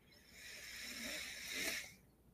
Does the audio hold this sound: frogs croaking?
no